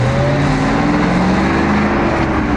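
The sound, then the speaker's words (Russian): A car engine roars loudly, its pitch climbing steadily as the vehicle accelerates and pulls away, with a constant rumbling road noise and no voices. “Машина рванула с места и поехала дальше.”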